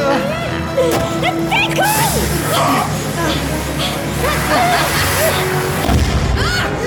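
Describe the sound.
A firecracker goes off with a deep, rumbling boom that rolls on for a second or so, amid excited shouting voices and clatter, followed later by another thud.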